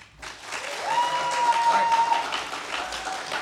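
A live audience at the end of the Critical Hit Show bursts into sustained, dense applause that stays loud and steady for a few seconds, with many hands clapping at once and a faint tone running through the middle.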